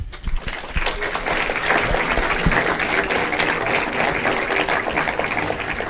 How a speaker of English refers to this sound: A huge applause, please.